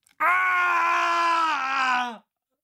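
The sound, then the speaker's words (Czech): A man lets out a single loud, sustained scream of agony lasting about two seconds, strained and harsh, as a scalpel is driven into his right eye, then cuts off into silence. “Řval jsem. Bolelo to strašně.”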